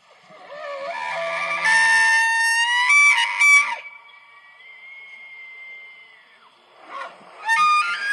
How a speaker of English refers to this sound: Guys, this is an elk. Watch your ears as you hear this.